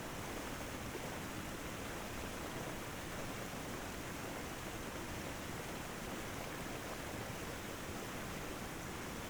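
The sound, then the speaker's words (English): A steady, even rush of flowing water, like a stream or waterfall, continues without a break throughout. It is fairly quiet and uniform, with no voices or other sounds. “And in a short time, the power of the water seems like it's washed away stagnant places in your spirit and even cleansed your soul.”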